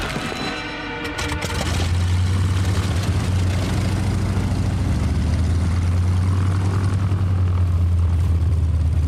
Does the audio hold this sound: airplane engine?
yes